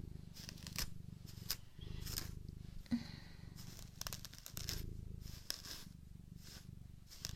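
cat purring

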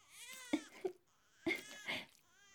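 baby crying from hunger

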